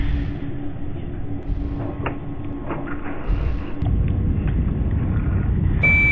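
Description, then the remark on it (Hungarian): A steady, low rumbling roar of a spacecraft's braking rocket engines, re-ignited in a video game while flying toward the Moon, fills the whole stretch, growing slightly louder partway through, with a few faint clicks and tones on top and no voices. “Újra begyújtottam a fékező hajtóműveimet.”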